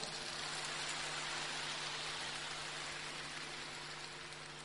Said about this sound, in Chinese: 说没有的人鼓掌。